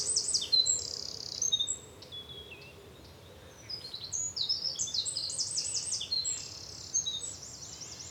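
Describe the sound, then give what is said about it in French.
A common nightingale sings outdoors, pouring out high, varied phrases with rapid repeated notes and brief pauses, clear over a soft background hush; no one speaks. “T'as entendu le début du chant du rossignol ?”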